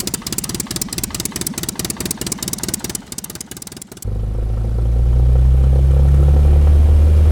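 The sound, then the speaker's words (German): An airplane engine chugs in rapid, rhythmic pulses, then abruptly gives way to a deep, steady roar that swells louder and holds as the plane starts its takeoff. “Jetzt startet unser Flugzeug mit lautem Motorengeräusch.”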